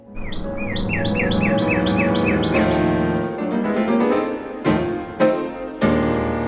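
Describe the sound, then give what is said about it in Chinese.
A small red-breasted bird chirps, opening with a quick run of about eight rising tweets, then breaking into a busy, warbling song punctuated by sharp bright notes, as it flies to an old gardener who whistled toward an orchard, and lands on his hand. No one speaks. “老人对着果园吹口哨，而几乎就在同时，空中传来了小小的身影，那只红胸的小鸟正朝他们飞来，而且它就停在老园丁的手上哦。”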